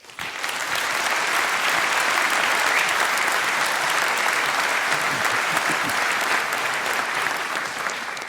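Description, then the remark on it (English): A crowd applauds steadily to welcome a speaker before a talk on breaking NATO radio encryption, a dense wash of clapping that stays loud and even from start to finish with no voices standing out. “Please welcome him for a huge round of applause.”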